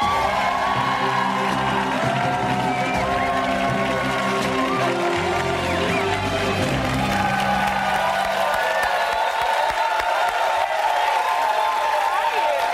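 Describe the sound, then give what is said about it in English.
A studio audience cheers and whoops loudly and continuously as Eve Ewing is welcomed onto the show, with scattered applause and a few individual shouts, including someone shouting "Chi-town", rising above the crowd noise throughout. “Chi-town? Is that what you shouted?”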